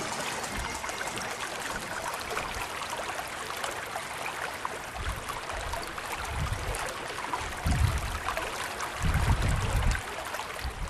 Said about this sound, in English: I've come to the village of Slane in Meath, where the River Boyne flows under a 13-arch bridge.